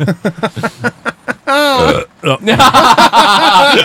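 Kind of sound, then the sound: human body sound, burp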